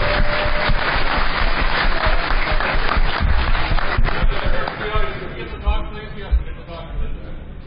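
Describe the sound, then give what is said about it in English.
An audience in a hall applauds and cheers for the goons, the event staff. A dense wash of clapping and voices stays loud for several seconds before thinning into scattered claps and shouts. “Yeah, I think the goons actually deserve quite another round of applause here.”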